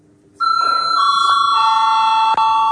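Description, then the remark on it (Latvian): A voting bell in the Saeima, the Latvian parliament, rung to call deputies to a vote, rings out in one loud, steady electric tone after a brief quiet start, holding an unbroken mid-high pitch with bright overtones and a tiny dip near the end. “Lūdzu zvanu.”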